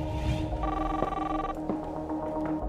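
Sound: telephone ringing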